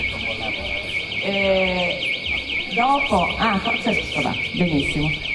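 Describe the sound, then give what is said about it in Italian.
A car alarm wails with a steady, high-pitched warbling tone that rises and falls rapidly and without pause, while a man keeps talking underneath it. “Ci mancava l'allarme.”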